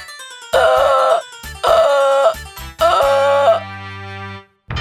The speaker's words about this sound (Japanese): それではアシカのマリンちゃんから一言。